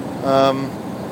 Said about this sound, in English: This time we're down beside the seaside in Worthing at a bus rally. It's Sunday the 27th of July. And I am on a old South Downs bus from 1956. I'm sat very near the front downstairs.